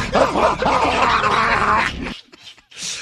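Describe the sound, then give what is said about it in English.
A man imitates a dog, letting out one long, loud, gravelly bark-growl for about two seconds, followed by a few short, breathy huffs, imitating how an Australian man barked in someone's face. “And this Aussie just bogan, as we use the word around here quite a bit, just jumped in this guy's face and started barking. He goes, this is what it sounded like, rah, like this.”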